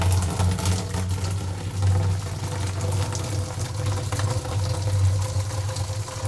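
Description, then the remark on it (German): About 1.5 litres of boiling water pour steadily into a beer-brewing bucket from a brew kit, a continuous rushing splash over a deep, droning hum that holds for about six seconds with no one talking. “Ein Spitzengeräusch ist es, wenn Wasser, kochendes Wasser in einen Bierbraueimer gefüllt wird von einem Brewkit.”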